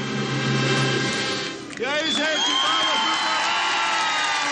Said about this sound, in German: Viel Beifall, Gesang, Sonne, Farbenfreude bei der Papstmesse auf dem Marsfeld vor der beeindruckenden Skyline der Millionenstadt São Paulo. Der Tag war zum Feiertag erklärt worden und darum konnte ungefähr 1 Million Menschen kommen